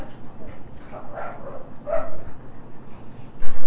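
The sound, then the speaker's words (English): A dog barks in a few short, yappy bursts spaced about a second apart, moderately loud over a steady low background hum. “The doggy's barking.”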